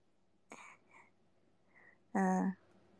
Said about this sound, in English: Yawn number three.